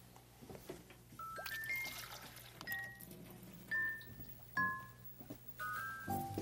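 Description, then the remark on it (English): Cold water pours and trickles into a salt-and-flour modeling dough mixture, broken by several short ringing clinks over a steady low hum, with no one speaking. “And we'll get some cold water.”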